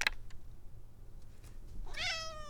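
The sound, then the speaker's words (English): A single clear cat meow rises near the end as the cat heads toward the door wanting to go outside, fairly loud, with strong harmonic tone over a quiet low background hum; a faint short click sounds at the start. “Oh, you think you want to go outside, do you?”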